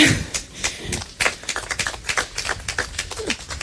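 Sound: audience clapping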